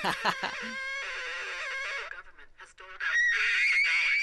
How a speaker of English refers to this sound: So now you want to touch it right here. Sort of hunt around a little until you get this squealing, screeching noise. Maybe a little bit to... Oh, yeah, there it is.